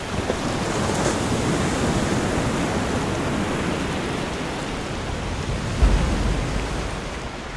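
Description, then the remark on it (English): A steady, roaring wash of surf fills the scene, with waves breaking continuously on a beach at Big Sur and one slightly stronger surge near the end. No voices are heard. “I wrote it in the sand, and now the waves have washed over it, irretrievable.”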